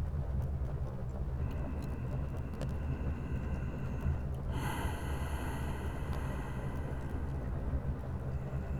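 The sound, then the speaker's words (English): Slow, deep breathing, a long steady breath drawn in and then let out, fairly loud over a low rumbling background, with no talking. “Focus on my breathing.”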